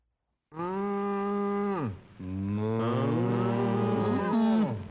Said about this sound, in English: This first one that we're going to play for you involves cows talking to you.